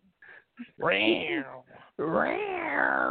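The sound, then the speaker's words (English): A person's voice imitates a cat's roar: two long, loud, strained vocal growls with rising and falling pitch, preceded by a few short, quiet vocal sounds. “Like a cat. What is going on?”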